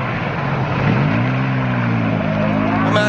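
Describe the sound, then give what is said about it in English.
A small car's engine revs up and pulls away, its buzzy motor pitch climbing steadily and staying fairly loud throughout, with no voices. “Okay, you drive it, because I don't have the balls to drive a fucking roller skate.”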